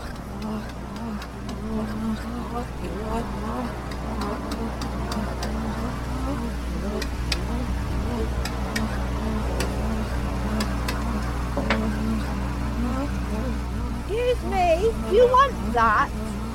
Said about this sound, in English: Cars moving, going zoom, zoom, zoom, zoom, zoom.